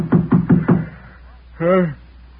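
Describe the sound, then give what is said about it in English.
Four quick, evenly spaced, solid knocks on a hotel room door at the Providencia Hotel, followed after a short pause by a single brief spoken exclamation. “Just a minute, I'll get up and open the door.”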